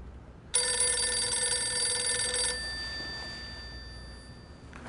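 A telephone bell rings once in a bright, sustained metallic burst lasting about two seconds, then its tone lingers faintly as it fades. No one speaks.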